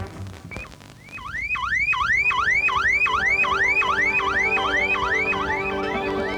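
A car alarm wails with a fast, repeating electronic whoop, each sweep rising and falling about twice a second, loud and steady after a brief initial chirp.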